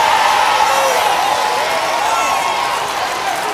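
A church audience shouts and cheers during a sermon in a loud, continuous roar, with overlapping voices and whoops for several seconds.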